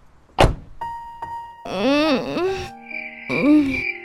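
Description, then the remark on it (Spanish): A drawn-out, groaning yawn from a woman waking up inside a car in darkness, rubbing her eyes; it rises and falls in pitch, followed by a shorter second yawn, clear. A soft thump and faint electronic tones come just before. “Dentro del auto, María despierta con un largo bostezo, restregando sus ojos hasta lograr visibilidad y encontrar a Luis.”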